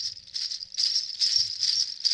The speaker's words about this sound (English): Those are supposed to be jingle bells? They don't sound like bells. They sound like you have a handful of nuts or something. No, they're jingle bells. I bought them at the Ali Akbar Khan School of Music in California